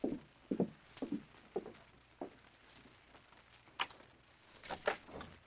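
A few soft, evenly paced footsteps, then a sharp click and brief rattling scrape as a door is unlatched and pulled open, all fairly quiet with no talking.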